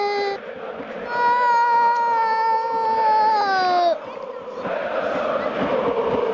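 A single voice imitates Red Star (Crvena zvezda) football fans cheering after a goal that makes it 2-2, holding a loud sustained wail for about three seconds that sags in pitch at the end, followed by breathy, noisy rumbling.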